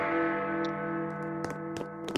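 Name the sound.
clock striking the hour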